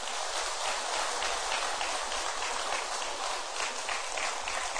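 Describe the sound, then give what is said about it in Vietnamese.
A crowd claps steadily for several seconds in a big round of applause for the monk Thầy Thích Giác Hiếu, a dense wash of overlapping handclaps at an even loudness with no voices on top. “Xin quý vị hãy dành một tràng vỗ tay thật lớn.”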